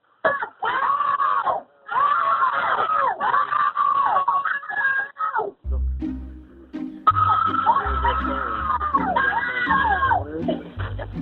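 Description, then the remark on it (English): Several high-pitched children's voices scream for help together in long, wavering cries, pause briefly, then scream again over a low rumbling background, loud; one of the children seems to laugh a little on the last scream, at an adult's request. “If you listen very closely, it sounds like one of the kids actually laughs a little on that last scream.”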